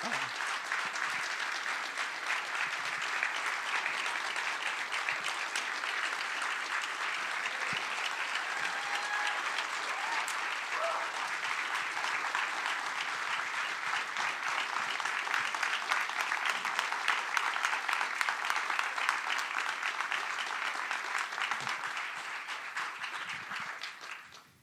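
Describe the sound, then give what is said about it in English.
A large audience applauds steadily for about twenty-five seconds in thanks to Pastor Ed and Diane, a dense, sustained wash of clapping that swells slightly near the end before fading out. “So I just clap. Say thank you for Pastor Ed and Diane.”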